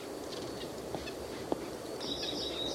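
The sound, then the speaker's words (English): Two white-breasted nuthatches in the same oak tree, in wind, giving short, nasal, low-amplitude squeaky calls, a few soft notes early and then a quick run of repeated high squeaks near the end, over a steady hiss with no talking. “They're both making low squeaky noises.”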